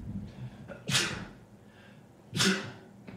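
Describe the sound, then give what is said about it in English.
Two forceful sneezes about a second and a half apart, each a sharp inhaled catch bursting into a loud, hissing blast, with quiet breathing in between. “Please don't put the sneeze in the book.”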